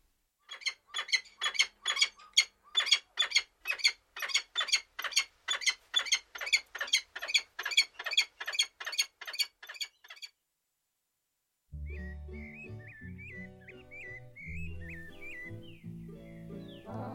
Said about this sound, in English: That recordings of peregrine falcon were from Stokes Field Guide to Bird Songs